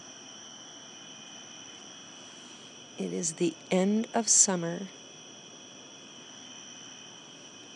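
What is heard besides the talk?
crickets chirping at night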